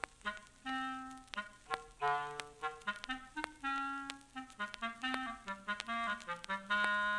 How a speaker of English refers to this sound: My dear children, young and old, each character of this tale is represented by an instrument in the orchestra. The bird by a flute. The duck by an oboe. The cat by a clarinet in a low register.